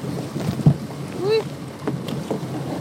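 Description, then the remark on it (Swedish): A painted canoe is lowered into the water at a harbour on a sunny day: a single hollow thump against the hull, then a brief squeaky creak, with steady warm wind buffeting the microphone throughout. “Nu ska vi bara göra det sista och det är att lyckas få ner kanoten i vattnet.”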